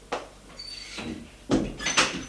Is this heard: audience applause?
no